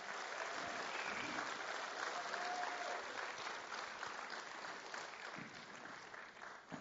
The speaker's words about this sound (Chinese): 现在我们热烈的掌声来欢迎这对夫妻来到我们的当中，邀请他们上来。